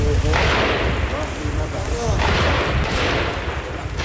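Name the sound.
gunshots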